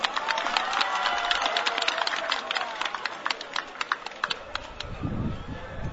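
A crowd applauds steadily, a dense crackle of many hands clapping that thins into scattered, separate claps toward the end as a low murmur rises.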